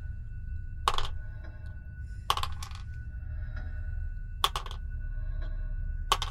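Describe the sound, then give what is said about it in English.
Several handfuls of dice clatter onto a table in three separate bursts of sharp rattling clicks, fairly loud, each burst quickly settling over a steady low background rumble. “That's a lot of dice”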